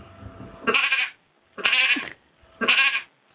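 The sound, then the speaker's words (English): A person imitates a sheep with three wavering "baa" bleats in a steady rhythm, each loud, separated by short pauses. “Sheep.”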